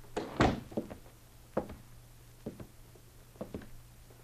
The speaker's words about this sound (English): They walked one after the other, and before he closed the door behind him, the second man looked back to the warmly dressed lookout standing by the sleds. They exchanged nods, and apparently satisfied, the men closed the door.